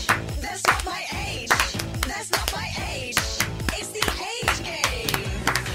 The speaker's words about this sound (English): I forgot we did the clap then. Yeah, sometimes we've done that for so many years. I know. And sometimes we forget.